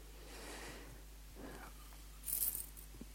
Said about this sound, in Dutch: Ik heb een bos sleutels meegenomen vanochtend. Heel veel sleutels.